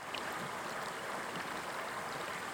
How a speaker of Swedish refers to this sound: Nu har vi kommit till en helt annan del av den här vandringsleden och det är vid Vantalängen. Där ån slingrar sig framåt och det är små fall och vattnet ser alldeles klart ut här.